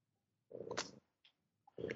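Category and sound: animal, cat purring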